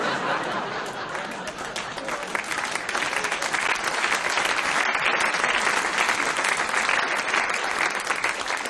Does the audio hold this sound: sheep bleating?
no